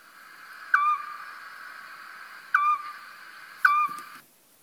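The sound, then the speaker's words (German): A little owl screeches three times at night, short shrill cries spaced a couple of seconds apart, ringing out over a steady hiss of background noise with no one speaking. “Eine Katze miaute kläglich und ein Käuzchen schrie.”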